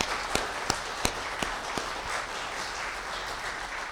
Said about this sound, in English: Will you join me in giving the choir and Mr. Chris, our choir director, a round of applause for that beautiful music?